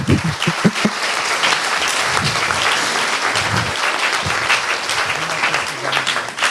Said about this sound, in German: Ich würde mal bitten, dafür auch einen Applaus für die schönen Bilder.